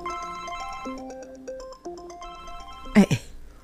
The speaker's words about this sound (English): Now my phone is ringing? Excuse me.